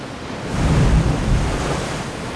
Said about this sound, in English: Between the crashing of the waves, Pyrrhus finally managed to get a firm grip on a rock.